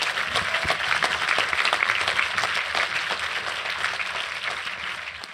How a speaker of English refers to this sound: Please give John a huge round of applause.